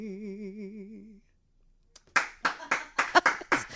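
A street singer's sustained wavering sung note fades out, followed by a brief silence, then a round of loud applause from people who stopped in groups on the street: a series of sharp, uneven claps lasting a couple of seconds.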